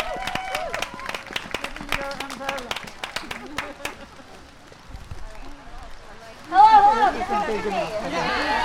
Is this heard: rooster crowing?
no